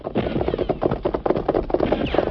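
Horse hooves gallop in a fast, steady rhythm of dense thuds that keep going without a break, loud and busy throughout.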